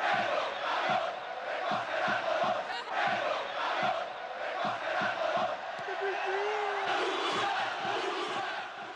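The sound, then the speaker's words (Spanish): A huge football crowd at the Bernabéu stadium chants racist insults ("negro cabrón, recoge el algodón") at a player, mostly from the end stand: a dense, loud roar with rhythmic pulses of massed voices that carries on throughout without a break. “De muchísima gente en un campo, especialmente desde el fondo, gritándole: negro cabrón, recoge el algodón.”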